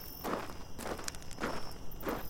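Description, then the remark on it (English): Footsteps of a person with a flashlight walking into dark woods at an unhurried, steady pace, four soft crunching steps evenly spaced over a low background hiss, with no voices. “I grabbed my flashlight and I stepped into the dark.”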